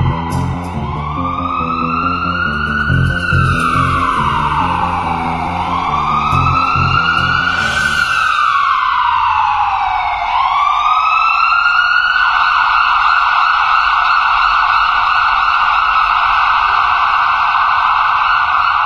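A loud ambulance siren wails up and down in slow, repeated sweeps, steady throughout, with a low engine rumble underneath during the first half, as the ambulance rushes two injured workers, a welder and his assistant who fell 13 metres, to hospital.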